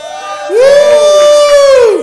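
A crowd cheers loudly, with one long, high, steady whoop held for over a second above a noisy wash of voices and possible clapping, then cutting off.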